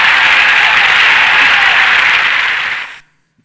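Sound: crowd applause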